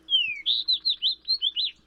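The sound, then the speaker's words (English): A fox sparrow sings a bright, clear phrase: a long descending whistle followed by a quick series of six or seven sweet, rising and falling notes, loud against a faint low hum. “When you step outside on a particularly sunny day this winter, even visitors from the far north, like this fox sparrow, may be warming up for the coming spring.”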